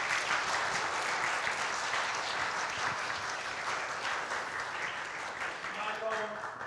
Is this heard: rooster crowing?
no